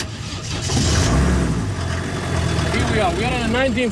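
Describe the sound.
The modern Mercedes diesel engine of a 1955 Chevy car rumbles steadily, a low continuous drone that swells slightly early on, with voices talking over it toward the end, near a central park under a blue sky.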